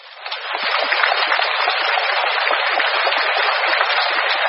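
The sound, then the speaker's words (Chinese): Applause from a crowd at an auction swells up within the first half second, then holds as a dense, steady wash of many hands clapping at once, fairly loud, with no voices. “台长说那是当时的会场鼓掌。”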